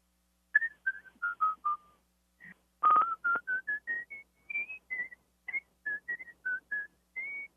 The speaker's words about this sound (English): Can you whistle at all? Can you whistle? He's whistling now.